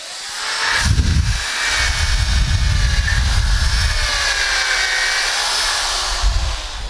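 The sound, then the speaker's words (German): A power drill fitted with a 9 mm bit whines steadily for several seconds while boring a hole into wood for an 8 mm dowel, its motor pitch wavering slightly as the bit bites and grinds, loud with no talking. “Also der Dübel soll nicht locker sitzen, aber ihr werdet gleich sehen, wenn ich einen 9er Bohrer für einen 8er Dübel nehme, dann sitzt der auch fest im Holz.”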